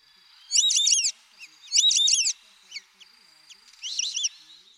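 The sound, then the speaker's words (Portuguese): White-faced whistling duck calls: three bursts of high, clear multi-note whistles, the first two loud and the last softer, with faint whistled notes in the gaps between them. “Gosta de assobiar enquanto voa, principalmente em noites de chuva”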